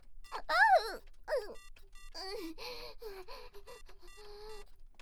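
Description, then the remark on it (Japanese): A telephone rings with a steady, buzzing electronic tone through the second half, following breathy vocal gasps and a voice at the start; the ringing is moderately loud and continuous. It is an incoming call placing an order. “オーダーの電話？マジ？こんないいところで。”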